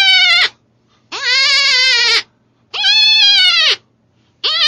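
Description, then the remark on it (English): A hunter's own version of a fawn distress call, used to call in predators such as bears, lions, coyotes and foxes: loud, high, nasal bleats repeated about four times, each lasting roughly a second with brief pauses between, wavering slightly in pitch, with no talking. “is a fawn distress call.”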